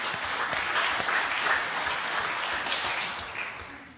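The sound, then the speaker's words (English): A crowd at a drive-in church service claps steadily in dense, sustained applause, many hands overlapping into a bright, even wash that holds for several seconds before easing slightly at the end. “So have a little hand clap of praise for a wonderful year-long of drive-in church.”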